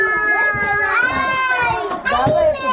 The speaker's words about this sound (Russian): Подходя к садику-самолету, на меня обрушился радостный визг детей, вполне успешно заменивший рёв двигателей.